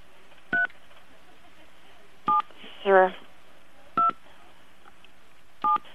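Phone keypad touch tones beep four times as numbers are keyed in on a phone at home during a call, slowly and evenly spaced, each a short two-pitched electronic tone, with a brief warbling sound between the second and third over faint background hiss.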